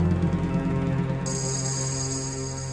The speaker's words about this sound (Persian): صدای تلفن توه؟ از اون برسیمی. این مال کیه دیگه؟